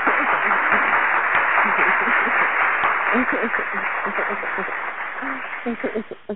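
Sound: round of applause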